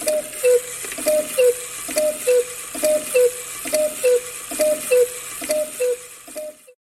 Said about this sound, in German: In diesem Moment schlägt die Kuckucksuhr erneut unpünktlich zur nächsten Stunde.